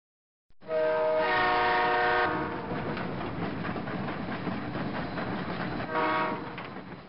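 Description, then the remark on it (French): A train rumbles past, sounding its horn in a long blast at the start and again briefly near the end, with steady rolling wheel noise in between. “Oui, c'est le train, Fatih.”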